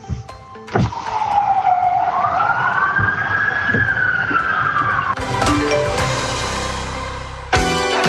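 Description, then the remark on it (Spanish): A fire engine siren wails loudly during the firefighters' traditional parade with Santa Claus (viejo Pascuero) in the centre of Puerto Montt, its tone sliding up and holding high before dropping, with traffic rumble and a couple of sharp knocks around it. “Para que le avisen a la comunidad de población Modelo, sector centro, no se asusten si se escuchan las sirenas de bomberos.”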